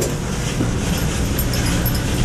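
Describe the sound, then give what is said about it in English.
A clothes dryer runs in a laundry room with a steady, low rumbling drone and a broad whooshing hiss above it, holding an even loudness throughout without any pauses or voices. “That is the dryer you're hearing.”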